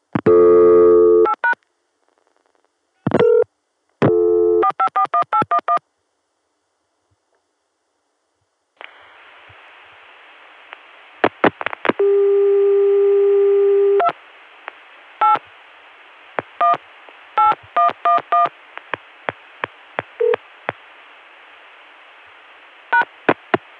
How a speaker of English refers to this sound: This time I got a Chicago dial tone and tried calling Richmond